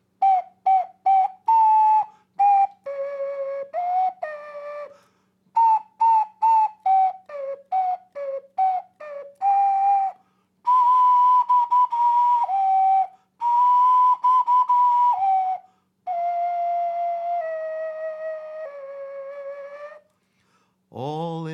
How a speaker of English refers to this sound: Ocarina solo.